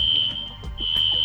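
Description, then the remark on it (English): A fire alarm goes off in an apartment building hallway, sounding a shrill, high-pitched electronic tone that wavers and briefly dips before returning strong, heard over a low background rumble with no one talking. “the fire alarm is going off in Andrew's apartment”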